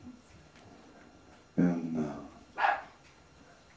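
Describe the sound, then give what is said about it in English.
A dog barks twice, a longer drawn-out bark followed a moment later by a short sharp one, against a quiet background with no talking. “Even the dogs agree.”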